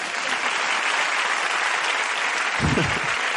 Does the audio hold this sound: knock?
no